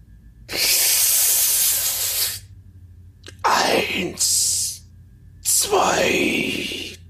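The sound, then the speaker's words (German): A long, loud, hissing breath drawn in, a short held pause of near silence, then two breathy exhales with a falling, sigh-like tone. “bitte atme einmal tief durch und halte die Luft an und dann atme aus, während du langsam bis 5 zählst.”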